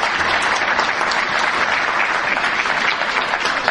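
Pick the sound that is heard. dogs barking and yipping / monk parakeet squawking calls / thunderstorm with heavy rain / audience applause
audience applause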